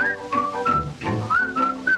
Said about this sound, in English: For at the very break of day, the peanut vendor's on his way. At dawning, that whistle goes.